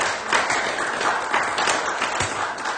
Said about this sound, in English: So give yourselves a hand clap of praise. Amen.